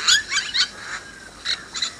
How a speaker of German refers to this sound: Also, ich habe auch schon direkt den Geruch in der Nase und höre die Vögel zwitschern.